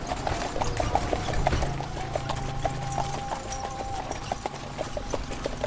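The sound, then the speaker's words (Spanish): Horse hooves clip-clop in a steady, continuous rhythm: a horse-drawn tram of 1807 running on rails through the streets of Wales, with a low rumble of wheels beneath the hoofbeats. “Pero estos son cascos de caballos.”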